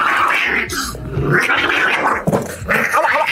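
A cat growls loudly, a rough, continuous rumbling snarl that swells and dips with a couple of brief catches, with no talking over it.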